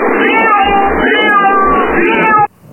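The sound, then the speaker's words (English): A cat meows loudly and continuously, a drawn-out wavering yowl lasting a couple of seconds before cutting off abruptly. “Love my cat. Shut up!”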